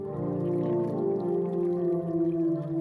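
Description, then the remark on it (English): A steady, resonant tone with layered harmonics hums continuously, its pitch gliding slightly, as a blocked water jet forces water back into a water instrument's sounding chamber, which resonates to play a note; no one speaks. “And what that does is that forces the water back inside the instrument into the sounding mechanism, the sounding chamber, and then it resonates.”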